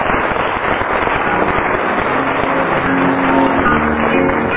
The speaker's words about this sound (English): Did I tell you at home that we have a lady scorer? For 11 years now, I've been trying to get a lady scorer, like all the other chairmen have sitting next door. And we have. Give her an actual round of applause.